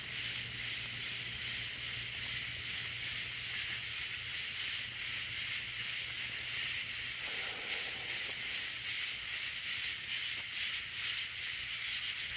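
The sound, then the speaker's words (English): A dense, unbroken chorus of cicadas and crickets singing at night fills the whole stretch, a shimmering high buzz with a faint pulsing texture, over a low steady hum and no voices. “My mom said these are cicadas, a kind of locust. And some birds, crickets, who knows what all kind of insects, but man, they are singing tonight.”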